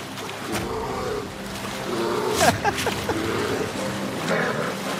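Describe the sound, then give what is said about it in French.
Two large bears fight, a mother bear attacking a male twice her size, letting out deep growls and roars over a continuous rumble of struggle, with several sharp, louder outbursts midway through the brawl. “Bien que le mâle soit deux fois plus gros qu'elle, cet ours dopé à l'instinct maternel attaque de plus belle.”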